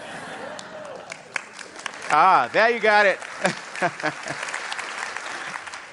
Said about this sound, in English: You know, in the last service, they clapped when I said it's a beautiful day.